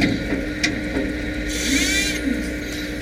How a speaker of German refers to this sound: So klingt es, wenn ein Roboter mit Ziegelsteinen eine Mauer baut. Roboter, das ist etwas, das die Baubranche stark beschäftigt.